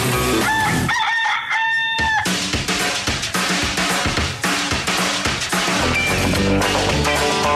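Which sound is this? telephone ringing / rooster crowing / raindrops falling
rooster crowing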